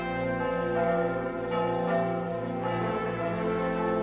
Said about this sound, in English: ordered every church in Britain to ring out its bells in celebration for the first time since war began.